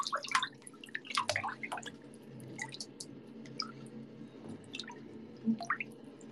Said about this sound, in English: Lagi nyuci piring pasti.